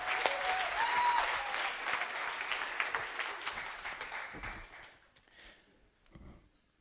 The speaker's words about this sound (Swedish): En applåd till ni kan få gå och sätta er.